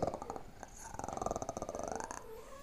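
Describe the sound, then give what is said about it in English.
A rough growl with a rattling, pulsing texture that swells and holds for a couple of seconds, likely a person's voice imitating a snarling dog or beast. “That was more predator. Yeah, that was a werewolf alien noise.”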